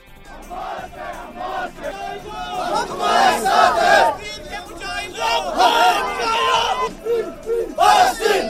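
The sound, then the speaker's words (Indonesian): A large crowd of thousands shouts protest chants in unison during a Muharram religious procession through the streets of Srinagar, Indian-administered Kashmir, condemning Israel and America over the war in Gaza; voices rise and fall in loud, rhythmic bursts, with overlapping yells and a steady murmur of many people between the chanted phrases. “Teriakan kecaman terhadap Israel dan Amerika berkumandang di sepanjang jalan-jalan yang dilalui warga.”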